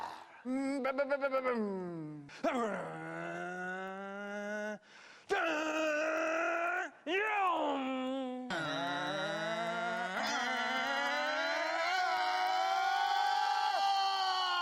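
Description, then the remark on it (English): A voice imitates a race car engine with a loud series of revving, buzzy bursts, the pitch sweeping down and then climbing in long rising whines, with short breaks between runs. “I want to hear your engine noises.”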